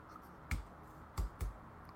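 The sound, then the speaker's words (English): Three sharp mouse clicks, one alone and then a quick pair, placing an online bet on the San Francisco 49ers, against a quiet background with no voices. “I'm clicking it right now.”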